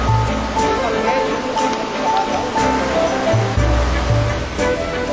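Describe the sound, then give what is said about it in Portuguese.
River water rushes steadily over enormous, slippery rocks, a continuous full hiss of flowing current with voices murmuring low beneath it, as hikers walk upriver over the stones toward a hidden waterfall. “Já estamos exaustos de andar pelas pedras por dentro do rio e nada de cachoeira,”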